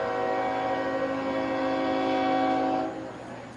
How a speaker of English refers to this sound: One out in the last of the second as the trains roll on by in Montgomery.